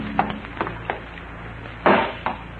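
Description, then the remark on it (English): Two glass jars of fruit are struck with a hammer in a sink: three light knocks, then a loud shattering crash and one more smaller smash, with no voices. “You smash the jars with a hammer and start to pour the fruit down the drain.”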